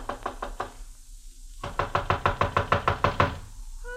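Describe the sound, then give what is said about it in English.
Knuckles rap on the wooden door of a houseboat, Dahabia number 10, on the Nile: a quick cluster of about five knocks, a brief pause, then a longer, insistent run of about ten firm, evenly paced knocks, loud, with no talking. “I walked up the narrow awning-covered gangplank that led to the little deck and knocked at the door.”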